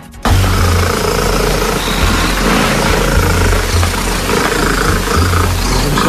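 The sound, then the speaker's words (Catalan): A British cat named Bella, 14 years old, purring extremely loudly, a Guinness World Records loudest purr officially measured at 54.59 decibels: a deep, continuous rumble with a slow rhythmic throb that holds steady for several seconds, almost engine-like, with no voices. “Una gata britànica ha entrat ja al llibre dels rècords mundials per tenir el ronc més fort.”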